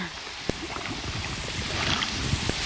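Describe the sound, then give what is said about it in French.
Large air bubbles from surfacing divers break the water's surface in a steady churning gurgle that swells toward the end, with a couple of sharp knocks and some wind noise. “Ben oui, ils arrivent. Hein. Avec des grosses bulles.”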